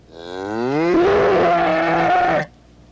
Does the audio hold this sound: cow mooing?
yes